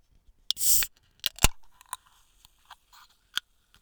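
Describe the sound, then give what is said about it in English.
A can of Diet Coke snaps open with a sharp click and a loud burst of hissing, followed by a couple of metallic clicks and faint, scattered fizzing crackles. No one speaks. “Can you hear the fizz?”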